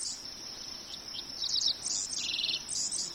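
Dickcissels, field sparrows and common yellowthroats sing in quick chirps and short trills over a steady high insect drone on Seth Watkins' farm in the hills of southwest Iowa, fairly soft, with no talking.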